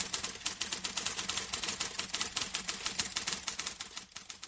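Rapid, steady typing on a mechanical typewriter, a dense run of sharp clacking keystrokes with no voices, slowing slightly near the end.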